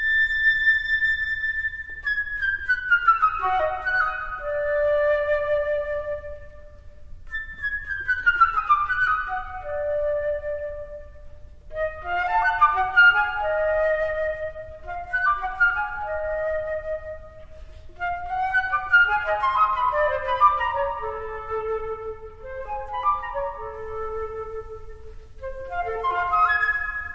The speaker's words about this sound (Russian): Это «Песнь соловья». Здесь отрывок из очень экзотической, вот такой тонкой музыки дирижирует Кливлендским оркестром Пьер Буллез.